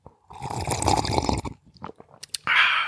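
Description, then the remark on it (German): A long, noisy slurp of hot blueberry muffin flavored tea, followed by a few small mouth clicks and a short airy hiss at the end. “Ein Schlürferchen, wie in alten Zeiten.”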